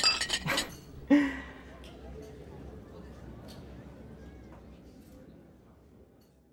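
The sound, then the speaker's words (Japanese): Beer glasses clink in a toast: bright clinks ring out near the start, a quick cluster followed by a second sharp clink, then fade into a low, murmuring hum with chatter. “でも遠慮なしで、二度目だろうけど乾杯。”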